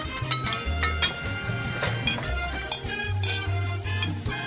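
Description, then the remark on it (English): Glasses clink together several times in bright, sharp taps, scattered irregularly over a steady musical backing with a prominent low bass line, introducing a wine segment on a radio show; no one speaks. “Oh, and the clink of glasses means it's time to welcome Miles Thompson from Prince Wine Stall back in person, back in the studio with bottles of wine.”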